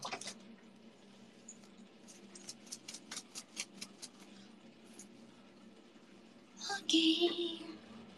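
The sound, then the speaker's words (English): Water drips in a quick run of small, evenly spaced taps, fairly faint, followed by a brief louder splashy burst near the end. “I'm gonna mute for a while because it's gonna, the water is, I don't know. Can you hear the water?”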